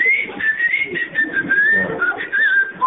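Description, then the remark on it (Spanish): A person whistles a continuous, wavering melody for several seconds, clear, over a soft, murky low background. “Y silbaba también ahí. Sí. Y silbaba el tipo.”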